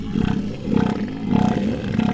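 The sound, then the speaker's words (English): A male elephant seal's mating call: a deep, throaty bellow broken into rapid pulses, rising and falling in several rhythmic surges. It is loud, with no talking. “Imagine you're an elephant seal on the prowl for a harem of mates. You blurt out this sound.”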